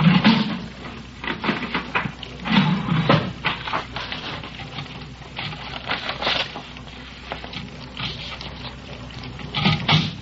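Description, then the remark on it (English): A printer runs through a single print, its mechanism clattering and whirring in uneven bursts with repeated low thumps as the paper feeds, steady mechanical noise throughout with no talking. “Okay, one print.”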